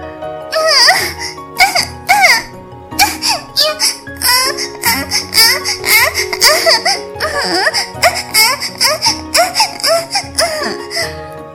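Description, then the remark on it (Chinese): A voice imitates the high-pitched, baby-like whimpering and moaning some women make during sex, a steady run of short wavering cries that rise and fall, fairly loud, with no other sounds. “再就是婴儿式的声音”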